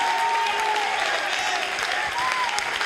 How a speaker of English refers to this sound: Come on, you ought to clap your hands.